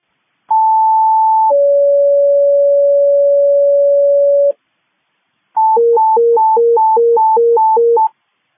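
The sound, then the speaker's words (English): A loud electronic fire dispatch paging alert for Abilene Fire Department Rescue 1: a short high tone steps down to a long steady lower tone, then after a brief pause a rapid warbling two-note tone alternates for a few seconds. No voices. “Squad 35, all of Abilene Fire Department just rescue one tones. Rescue one tones, please.”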